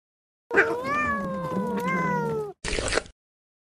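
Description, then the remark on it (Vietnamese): A cat lets out a long, drawn-out meow lasting about two seconds, followed by a short, sharper second call. Both are fairly loud, with no talking. “Xem ra con mèo này là khá hơn cả.”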